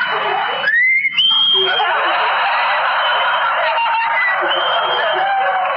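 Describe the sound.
Someone doing bird impressions imitates a nightingale's song with whistles: a quick rising whistle, then a long, steady high note, heard over a constant, dense, hissy background wash.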